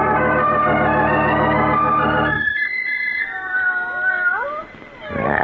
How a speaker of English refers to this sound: And the cats are in the study with him.